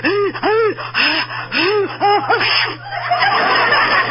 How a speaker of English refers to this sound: Bless you.